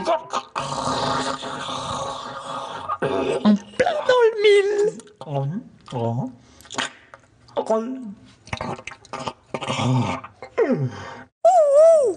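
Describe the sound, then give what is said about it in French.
A voice imitates snoring, with a run of raspy snorts and drawn-out groaning breaths that rise and fall in pitch over several seconds. “Zinzin Dondon, arrête de ronfler.”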